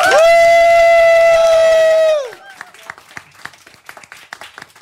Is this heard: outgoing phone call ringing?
no